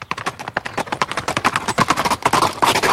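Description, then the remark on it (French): Hooves of two ridden horses clatter at a brisk trot as they set off on a ride in a park, a quick, overlapping clip-clop, fairly loud, that steadily picks up pace, with no voices. “le jeune homme chercha les flancs de sa monture et les deux chevaux partirent d'un train assez vif.”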